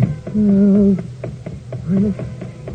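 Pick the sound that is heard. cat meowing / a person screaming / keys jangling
cat meowing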